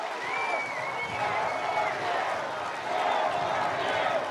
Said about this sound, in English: Amid the cheers, you can hear the crowd chant, "Four more years."